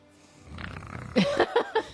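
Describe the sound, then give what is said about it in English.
A person snorts through a congested, injured nose that may be broken at the bridge: a rising, rattling breath followed by four quick, honking nasal snorts in rough rhythm, pug-like and fairly loud, with no talking. “I sound kind of like a pug.”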